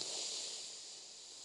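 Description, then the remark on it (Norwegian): A long, steady breath drawn in deeply through the nose before holding the breath, a soft airy hiss lasting over a second and fading slightly toward the end, quiet, with no talking. “Da begynner du med å puste godt inn med nesa.”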